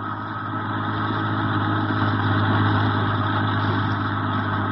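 A bus engine idles with a steady, loud rumbling drone, deep low hum layered with a constant mid-range whir, holding even throughout with no speech. The bus arrived at the kibbutz Ramat Yohanan after a ride through vineyards and orange groves.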